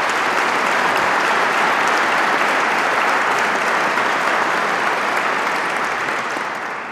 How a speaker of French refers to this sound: Je demande aux lauréats de se lever et je vous prie de l'applaudir.